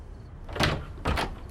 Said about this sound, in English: Jennifer opens the door to Hannah's bedroom and finds Hannah asleep, still in her clothes on top of the covers.